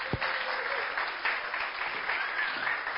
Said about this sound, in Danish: Tak skal I have. Skal vi lige klappe af dem?